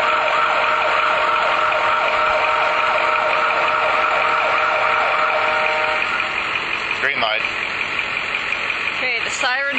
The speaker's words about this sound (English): Okay, is this it for real? Well, here's another siren. Okay. Okay. Oh, hey, look, another siren.